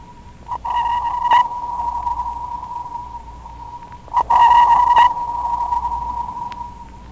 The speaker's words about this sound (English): A typical sonar man's analysis of the echo would be: sonar contact, bearing 090 degrees, range 820 yards, echo quality sharp, echo strength strong, target width 10 degrees, Doppler zero, classification possible submarine.